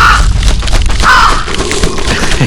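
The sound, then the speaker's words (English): Harsh crow caws ring out twice in a video game as crows dive-bomb the player, over a loud, rumbling game soundscape, with dense low-end booms and noise filling the background throughout. “Crows dive bombing us.”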